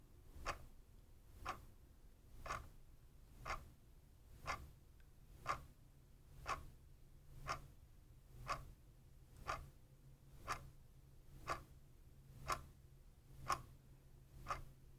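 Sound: clock ticking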